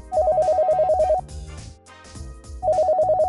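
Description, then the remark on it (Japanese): A telephone rings with a rapid electronic trill in two bursts separated by a short pause, fairly loud, with soft background music playing underneath and no one talking. “あ、お電話ですね。”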